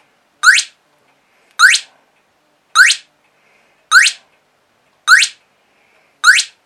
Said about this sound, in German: Und mache jetzt das gleiche, die Schalter umstellen und die Stromversorgung wieder zuschalten, wie ein Spatz pfeift.